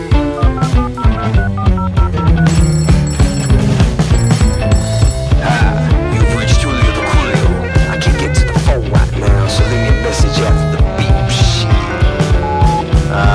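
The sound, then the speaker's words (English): A telephone rings repeatedly from a call placed from a public telephone, over loud, busy music with steady drums and a thick bass line, the bright ringing tones mixed into the dense backing track. “I gave him a call, again, from a public telephone.”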